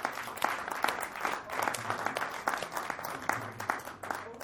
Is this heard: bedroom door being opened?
no